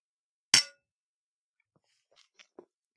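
A single bright clink of drinking glasses touching in a toast, sharp with a brief ringing decay, followed by a few faint small knocks in otherwise quiet surroundings.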